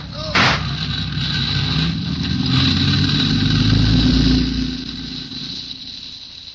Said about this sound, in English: Wait a minute. There's a car in the alley there.